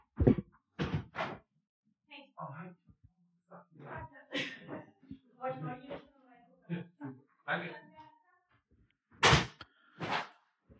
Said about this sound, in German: Ich mach mal kurz die Tür auf, weil da hat's geklingelt.